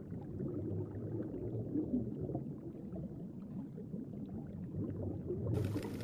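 A muffled, continuous underwater ambience beneath the sea of low rumbling and bubbling gurgles, steady and enveloping throughout, with a faint brighter hiss entering near the end. No voices.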